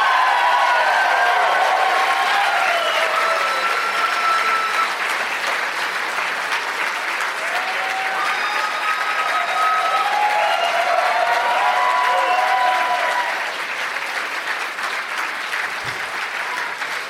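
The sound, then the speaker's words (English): Sustained, loud audience applause in Tempe welcoming show guests Josh Wolf, Jay Moore and Mark Wahlberg fills the whole stretch, a dense wash of clapping with a few whistles and cheers rising over it, easing slightly near the end. “Let's give a big warm welcome, Tempe, to Josh Wolf, Jay Moore, and Mark Wahlberg.”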